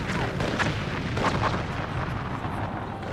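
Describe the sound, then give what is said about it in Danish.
Heavy cannon fire booms repeatedly from the guns of a Danish ship sailing in among pirate ships, dense overlapping blasts rolling over a constant low rumble, loud and continuous like a naval battle in full swing. “så drejer han rundt igen og sejler lige ind mellem sørøvernes skibe og igen skyder løs med kanonerne.”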